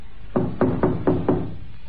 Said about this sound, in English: He was still puzzling over this annoying detail when he came upon the caretaker's cottage. After just a moment of hesitation, Harry knocked.